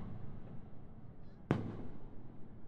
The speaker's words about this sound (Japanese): あ、また大きい花火が上がりましたね。綺麗。ここからでも少し見えますけど、田舎の花火大会ですから、残念ですけど、あんまり大きな規模じゃないんです。